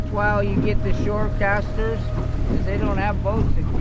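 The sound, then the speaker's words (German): A boat's engine drones steadily, a constant low rumble with a faint whine, while a person talks over it the whole time; it is one of the boats carrying about 15 people on the Klamath River toward a sandbank by the Pacific. “Eines der Boote steuert”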